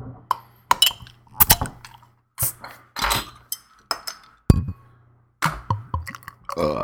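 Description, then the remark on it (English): Beer bottles are handled and opened, with sharp clinks of glass, metallic cap snaps and brief hissy bursts scattered irregularly over several seconds, over a low steady hum and no talking. “Let's crack them.”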